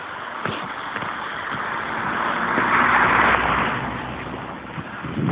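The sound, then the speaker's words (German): A car drives past on a forest road, its broad tire and engine rumble swelling to a peak near the middle and then easing off, with small crunches and knocks scattered throughout. “Fahrt jetzt ein Auto in die Forststraße, das muss es natürlich auch sein.”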